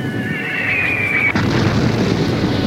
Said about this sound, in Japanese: 11月3日私は再び前線に立っている。砲弾と雨の中、泥にまみれ、人が次々と倒れ、モビルスーツは森を倒し川を揺らす。